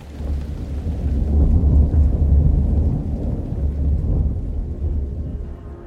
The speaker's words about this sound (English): I get 3 blocks down the rainy street when I hear the low rumble of thunder.